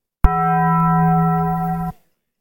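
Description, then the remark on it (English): A single loud, ringing gong-like tone strikes sharply and holds steady with bright overtones for nearly two seconds before cutting off abruptly, heard alone with no voices. “And we no longer have to respond to the gong.”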